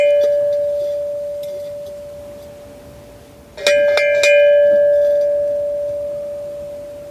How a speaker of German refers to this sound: Wir haben auch mal, also die Restauratoren schlagen immer die Hände über dem Kopf zusammen, aber die Glocke ist wirklich total super erhalten, deswegen haben wir sie auch mal geläutet.